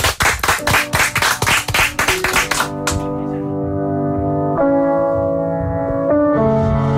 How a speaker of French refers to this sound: Applaudissements.